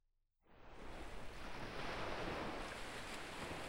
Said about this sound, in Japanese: 海の音。波が、砂浜に打ち寄せて、引いていく。